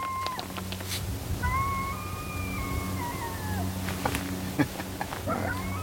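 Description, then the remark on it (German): A coyote sitting on the other side of a canyon howls once in a long, wavering note that slowly rises and falls, over a steady low rumble with a few faint clicks and taps. “Ein Kojote heult.”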